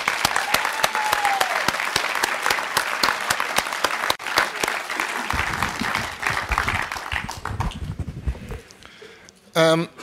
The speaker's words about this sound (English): Before we start, it's really important that we recognize the people that put this convention together. And I'd like you to join me in applauding all of the convention committee for doing a splendid job this weekend. Thank you.